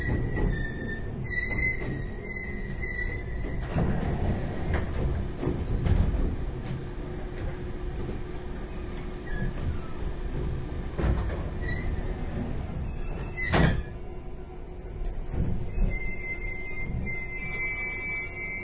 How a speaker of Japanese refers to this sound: 次は新州中野に停車いたします。閉まるドアにご注意ください。